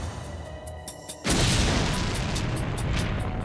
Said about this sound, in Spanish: La explosión fue tan poderosa que lanzó a Fowler a medio metro por el pasillo